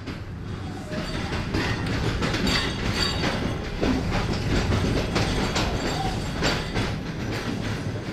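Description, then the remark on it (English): A passenger train in Pakistan rolls steadily along the rails toward Lahore, from Sindh province to Punjab, a constant low rumble with the rhythmic clickety-clack of wheels over track joints, heard from on board, with no one talking. “Yeah, we're on the train up to Lahore.”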